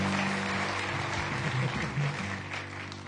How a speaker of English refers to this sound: Stand up. Take your applause like a young woman. There she is.